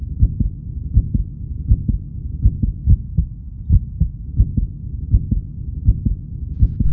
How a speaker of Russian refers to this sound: Это человеческое сердце. Такое же бьется и в твоей груди. Прикоснись, послушай, как оно стучит.